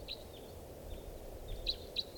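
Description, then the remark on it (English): Faint wild bird song from two birds in song flight at 6:32 p.m.: a few brief, high chirps scattered across a couple of seconds, heard over a steady low outdoor rumble with no talking. “Song flight. Here comes the bird. Two birds.”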